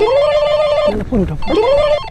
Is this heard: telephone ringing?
yes